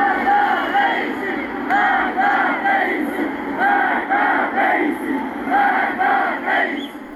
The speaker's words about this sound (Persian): گزارش ها حاکی از تجمع اعتراضی در روز یکشنبه در شهر کرد است. بنابر تصاویر منتشر شده در شبکه‌های اجتماعی، معترضان شعارهای علیه سران حکومت از جمله ابراهیم رئیسی، رئیس جمهوری اسلامی سر دادند.